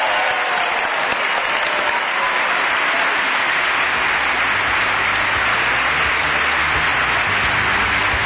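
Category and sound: crowd, applause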